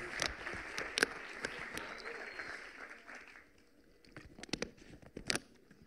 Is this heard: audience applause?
yes